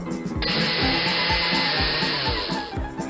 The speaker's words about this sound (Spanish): Le pones muchas frutillas en la licuadora, después cortamos la banana, se mete dentro de la licuadora, se pone azúcar, leche y licuamos.